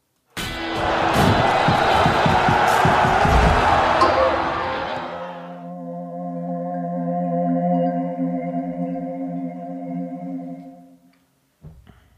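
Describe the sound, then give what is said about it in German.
A loud burst of crowd applause and cheering lasts about five seconds, then fades into a sustained, steady tonal chord that rings for several more seconds before cutting off. “Und von mir gibt es Applaus,”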